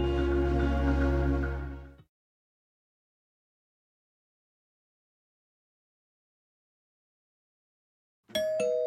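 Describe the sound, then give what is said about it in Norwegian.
After a stretch of silence, a bright, chiming tone rings out clear, like a doorbell ding-dong starting up, in a radio advertisement for the Meny online grocery store; just before the quiet, dense full-bodied music fades out. “Ikke løp til døra. Det ringte ikke på.”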